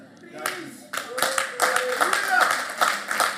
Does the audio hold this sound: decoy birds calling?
no